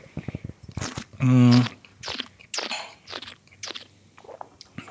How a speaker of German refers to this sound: Ja, für alle, die natürlich jetzt leider nicht sehen, was wir trinken. Darfst du so schlürfen am Mikro? Ist das erlaubt in dem Podcast?